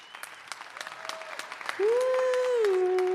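Audience applause with quick, scattered clapping throughout, joined about halfway by a loud, steady sustained tone that holds to the end over the clapping.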